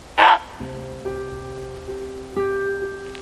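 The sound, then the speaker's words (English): A single short, harsh honking call from a barnacle goose chick, responding to its mother's calls, rings out loudly, then gives way to steady, sustained tones that hold for several seconds with no further calls. “At last, it responds to its mother's calls.”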